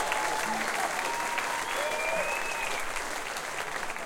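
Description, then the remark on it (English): Steady audience applause fills the whole stretch at a concert, for a guitarist being introduced before songs: a dense crackle of many hands clapping at an even level, with faint whistles and cheers rising through it. “So I'll give you an applause for you.”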